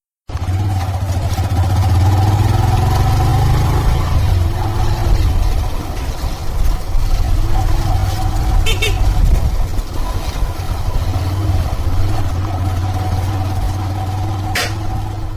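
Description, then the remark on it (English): A public motorbike taxi (boda boda) engine drones steadily and loudly during a ride to Junda in Kisauni constituency, Kenya, a continuous low rumble with slight shifts in pitch, with faint background noise and brief higher clicks. “It takes me approximately 25 minutes on a public motorbike, locally known as Boda Boda, from where I stay to Junda in Kisauni constituency.”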